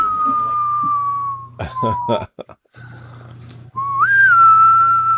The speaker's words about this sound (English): Let's whistle for 5 minutes.